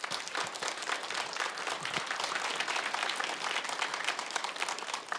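Steady crowd applause fills the whole stretch, a dense wash of many hands clapping at an even, sustained level without pause. Any cheering is buried in the clapping.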